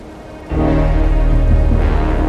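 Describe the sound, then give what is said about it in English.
After a brief quiet moment, a loud, steady wash of rain starts abruptly and keeps pouring without a break, with a low, droning tone running underneath. “I hate the rain. I've always hated rain.”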